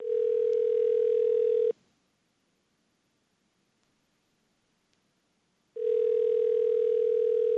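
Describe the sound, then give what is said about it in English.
A loud, steady telephone dial tone hums for under two seconds, cuts to near silence broken by a couple of faint clicks as a number is dialed, then the same tone returns. No voices. “Now I'm going to dial 1-844. And, I don't know, a bunch of numbers.”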